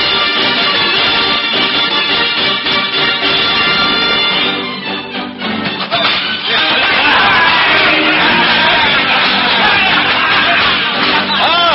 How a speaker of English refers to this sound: And look you now within the forest glade where cudgel meets oaken cudgel, as green-clad Robin matches blow for blow the noble efforts of Little John. The merry men of Sherwood withal, cheering on their mighty leaders.